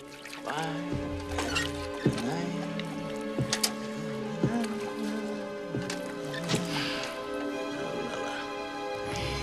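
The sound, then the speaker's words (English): Blood drips steadily off a dead monkey on a table into a bucket with a pronounced lip on the floor, six or seven distinct plops about a second apart, each leaving a brief hollow ring, over a low continuous background hum. “Blood drips off a dead monkey on a table into a bucket with a pronounced lip on the floor.”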